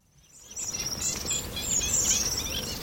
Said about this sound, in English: It's just after dawn, and Wickham Fen in Cambridgeshire is already buzzing with life. This National Trust Reserve is what remains of a great fenland, a soggy peat bog that used to sprawl right across East Anglia.